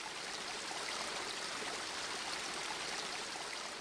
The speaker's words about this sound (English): And each fountain has its own distinct sound connected yes, with it. Exactly, because of course they come out. The water emerges at different volumes and at different heights, so it produces different sounds.